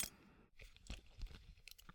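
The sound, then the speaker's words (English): A belt buckle is unfastened: a quick series of sharp metallic clicks and rustling tugs, fairly quiet, with no voices. “Belt.”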